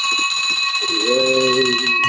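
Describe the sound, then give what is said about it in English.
A victory bell rings out with a bright, sustained, shimmering tone that hangs steadily throughout, loud, while a low voice murmurs briefly underneath partway through. “here we go. Victory bell for Kenny.”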